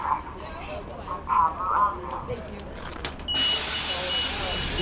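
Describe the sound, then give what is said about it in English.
A city bus pulls up: a low engine rumble and a few high warning beeps, then a sudden loud, steady hiss of air brakes or doors. Muffled voices sit underneath. “Here's the bus.”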